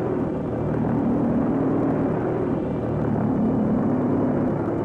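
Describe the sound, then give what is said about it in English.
A loud, harsh buzz from the pulse jet engine of a V1 flying bomb as it flies, droning steadily throughout, deep and throaty with a rough, rattling edge and no pauses or voices. “That explosion gives the V1 its very distinctive noise as it flies, which some people describe as a buzz, a deep-throated, harsh buzzing noise.”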